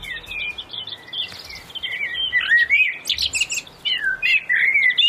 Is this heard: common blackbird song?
yes